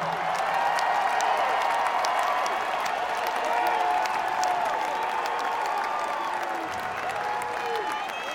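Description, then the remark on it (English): A large audience applauds steadily and loudly throughout, dense clapping mixed with cheering and whooping voices that rise and fall without a break. “All in the audience. Give us your hand.”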